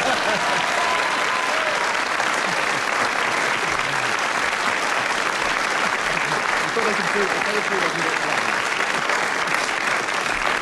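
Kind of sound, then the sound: crowd, studio audience applause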